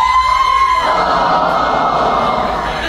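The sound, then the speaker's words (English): A crowd cheering sound effect: a short steady tone opens, then a loud, continuous wash of cheering and shouting voices that holds steady for a couple of seconds with no talk over it. “Very disappointing crowd.”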